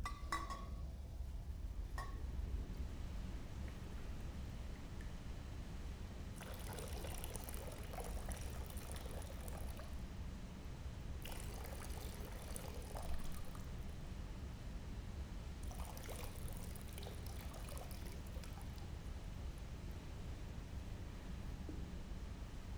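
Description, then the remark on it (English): Water is poured in three separate splashing bursts during a baptism by pouring, each lasting a few seconds, over a steady low rumble with no one speaking. “As I said, there are three modes we believe in sharing in baptism. One is what we call pouring.”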